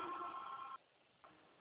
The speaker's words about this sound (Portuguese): Tá igual aqui, ó, o telefone não para, menina.